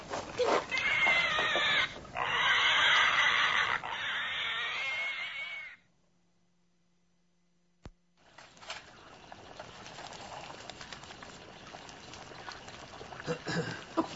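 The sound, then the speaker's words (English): Pigs squeal loudly and shrilly for several seconds as they are killed in a barn, then fall abruptly silent. After a sharp click, a softer, busy background of bubbling and rustling continues without any talk. “Killing pigs and going to California.”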